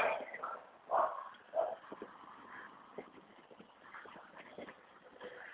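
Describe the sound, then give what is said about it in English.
A dog barks a few times in short, sharp bursts at another dog, with scattered lighter yips and scuffling noises filling the gaps. “There's another one up here you can bark at him.”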